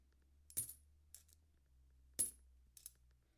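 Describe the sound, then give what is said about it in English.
Small 10 cent coins being sorted drop onto a hard surface in two distinct clinks, each with a bright metallic ring followed by a lighter secondary tap, fairly quiet with a faint hum beneath. “About a third of the way through of these 10 cent coins.”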